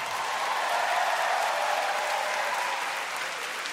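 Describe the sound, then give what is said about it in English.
Steady, dense applause from an audience fills the whole stretch, a continuous wash of clapping hands at an even, fairly loud level with no voices on top. “Great work. Give it up.”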